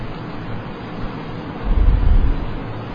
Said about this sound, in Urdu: جو باہر کے جانے والے ہیں وہ جلدی جانے سے ویسے رہے، بارش شروع ہو گئی ہے اس لیے وہ اطمینان سے بیٹھے.